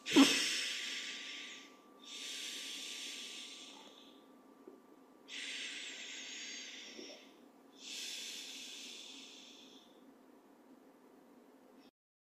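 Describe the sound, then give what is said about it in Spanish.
Four slow, deep breaths taken at the start of a guided breathing exercise, each a long airy rush with short pauses between, over a faint steady low hum. No one speaks. “Comienza haciendo un par de respiraciones profundas.”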